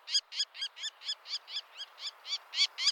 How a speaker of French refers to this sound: Il y a donc des bébés faucons dont on entend vraiment le bruit caractéristique.